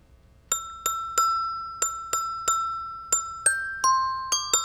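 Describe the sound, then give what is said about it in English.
A short Christmas melody picked out on bright, glassy bell tones, about a dozen clear struck notes in a lilting rhythm, each ringing briefly before the next, alone with no voices. “Anybody know that one? Jingle bells.”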